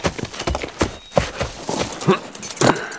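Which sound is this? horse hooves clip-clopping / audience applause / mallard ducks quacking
horse hooves clip-clopping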